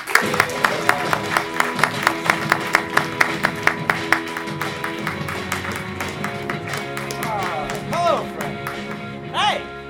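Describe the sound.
An audience claps in a steady, even rhythm while voices and cheering carry on underneath, as the improv group Improvise Wikipedia from the Lehigh Valley comes on stage. The clapping fades after a few seconds, and a couple of rising whoops come near the end.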